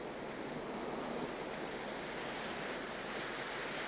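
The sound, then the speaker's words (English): A steady, continuous wash of ocean surf fills the scene, a dense hiss of breaking water with no distinct individual crashes and no voices. “I've never seen a painting that captures the beauty of the ocean at a moment like this.”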